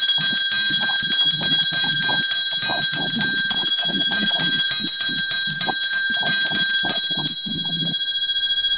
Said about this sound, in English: Where is my bell today? Boy, ooh-wee. Ooh, prophet. Ooh, here goes the bell. Here goes, I found a bell. Look.